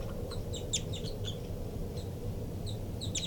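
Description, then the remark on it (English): A baby bird gives high, thin begging calls in quick irregular bursts, short squeaky notes repeated over a steady low background rumble, with no voices. “Recording the birds again. Begging by the baby there.”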